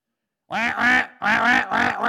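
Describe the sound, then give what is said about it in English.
A duck call quacks loudly, a quick series of raspy, nasal quacks with brief gaps between them and no voices. “I mean, they, what the duck does, they make duck calls.”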